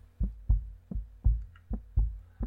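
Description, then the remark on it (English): A person's heartbeat, heard in the silence of the Tonto Trail in the canyon, thumps low and muffled, about seven beats in quick, even succession, fairly loud with no voices and little else in the background. “I love the silence on the Tonto Trail when I can hear my heartbeat.”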